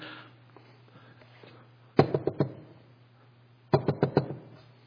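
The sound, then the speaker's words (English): A scared child knocks on a bedroom door around 12:30 at night: two quick bursts of knocking, each about four or five raps, separated by a short pause, with a low steady hum in the otherwise quiet background. “Honey, what is that? Someone's at the door.”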